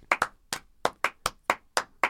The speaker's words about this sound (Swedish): Är det några fler som ska ha applåder? Ja.